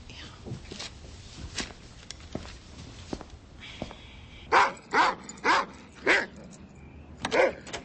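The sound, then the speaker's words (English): A dog barks in a quick series of five or six sharp, loud barks after a few seconds of quieter rustling and faint background noise. “You're not going to tell me that a dog did this. Bad dog.”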